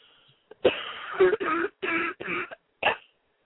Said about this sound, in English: Take a deep cough and just cough them out.